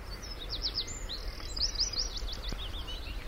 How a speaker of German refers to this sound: Hier zieht zum Beispiel eine Schafstelze durch. Hier sehen Sie jetzt zum Beispiel mal richtig Vogelzug. Das sind Singvögel, die durch die Büsche praktisch jetzt, das ist der nordöstlichste Punkt der Insel.